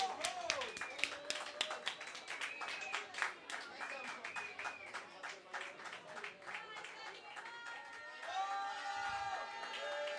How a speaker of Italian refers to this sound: Un applauso fortissimo a lei.